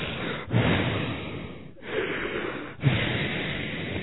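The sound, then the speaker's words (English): A voice imitates a woman's heavy breathing and snoring while she seems to be praying: several long, rasping breaths in a row, each separated by a brief pause, moderately loud with no other talk. “She's breathing heavy over here and snoring.”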